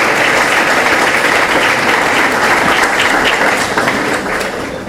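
A crowd applauds former mayors as they come forward to receive plaques from the secretary of culture, a dense, loud wash of many hands clapping that holds for several seconds and then begins to taper slightly at the end.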